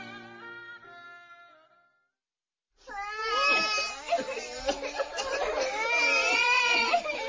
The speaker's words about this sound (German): Eines Morgens, als Hungbu das Weinen seiner hungrigen Kinder nicht länger ertrug, ging er zum Hause seines Bruders, um dort um ein wenig Essen zu bitten.